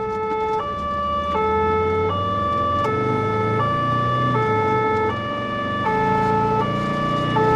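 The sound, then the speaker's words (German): A two-tone emergency siren on a blue-light emergency run to the SBB Weiberg Tunnel alternates steadily between a higher and lower pitch about every three-quarters of a second, loud and continuous over a low rumble of road traffic, with no voices. “Mal angespannter während dem Blaulichtfahren halt und auch, wenn man nicht weiss, was jetzt da kommt.”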